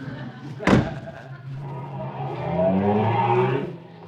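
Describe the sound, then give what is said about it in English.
A delivery truck's door slams shut with a single sharp thud, then the engine starts and revs up as the truck pulls away, its rising drone tapering off at the end. “You want a lift to my delivery truck?”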